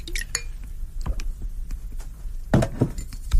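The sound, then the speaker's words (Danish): Clinks of glass and a newly bought bottle of 15-year-old Highland Single Malt Scotch Whisky, followed by a short burst of whisky being poured into a small glass, with a few lighter taps around it and no one speaking. “Den vil jeg med jeres tilladelse, som jeg håber at få, skænke mig et lille glas af.”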